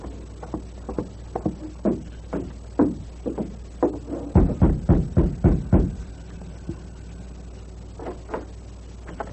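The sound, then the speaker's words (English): A series of sharp knocks on the wooden door of a ranch house at night, irregular taps building into a louder, rapid cluster of raps before trailing off into a few faint knocks. No one speaks. “Steady. Rap on the door.”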